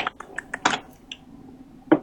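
Typing on a computer keyboard: a handful of quick, clicky keystrokes in an uneven rhythm, a couple of them louder, with a pause before one last sharp key press. No one speaks.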